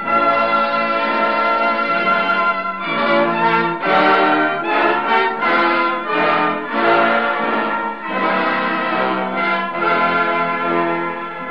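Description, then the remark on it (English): Bells ring loudly and continuously, overlapping strikes blending into a dense, ringing wash of bright tones with shifting rhythm and no voices. “Joe, I think you can start ringing those bells again.”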